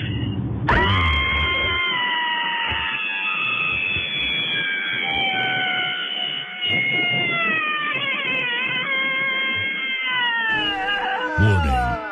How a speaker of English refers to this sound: this is my Cabin Fever Scream.